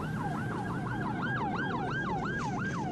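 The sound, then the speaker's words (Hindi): An ambulance siren in the Syrian city of Aleppo, amid fighting with gunfire and bomb blasts, wails in a fast, repeating up-and-down sweep, loud, over a steady low rumble of traffic or engine noise, with no one speaking. “गोलियों की आवाज, बम धमाके का शोर, बदहवास भागते लोग, एम्बुलेंस की आवाजें।”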